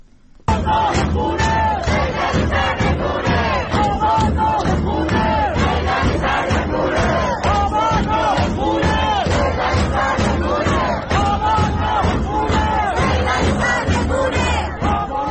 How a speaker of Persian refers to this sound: الان صدای یکی از این اعتراضها رو در منطقه صادقیه تهران میشنویم.